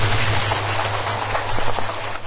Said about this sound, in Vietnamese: Một tràng vỗ tay cho câu hỏi đầu tiên.